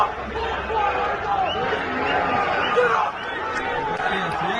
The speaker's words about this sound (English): People are shouting him down because of what he just did. Listen.